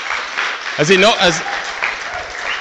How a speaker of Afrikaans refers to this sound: Kan ons vir hulle hande klap gee, asseblief.